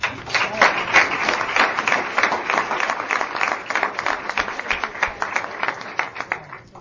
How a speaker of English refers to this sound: But we clap anyway.